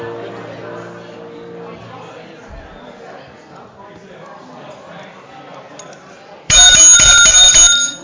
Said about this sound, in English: Need a louder bell.